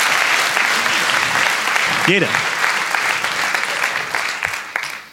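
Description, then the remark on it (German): An audience applauds loudly and steadily for several seconds at the end of a live show in Cologne, a dense wash of clapping that briefly covers a single spoken word before tapering off at the end. “Vielen Dank für diesen Applaus.”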